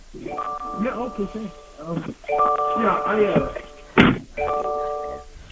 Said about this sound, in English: Yep, I can hear his car door open.